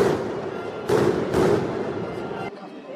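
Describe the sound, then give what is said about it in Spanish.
Two loud gunshots ring out about half a second apart, each a sharp, broad blast with a short decaying tail, set against a dense, rumbling background noise that cuts off abruptly near the end. “Me lo voy a cargar a todos, me lo voy a cargar. Pegar tiros.”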